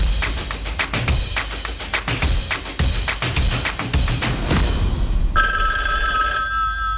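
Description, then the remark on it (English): An old-style telephone bell rings loudly in rapid, rattling bursts for about five seconds before a phone call, then gives way to a steady electronic tone that hums until the end. No one speaks. “I'm going to record this phone call.”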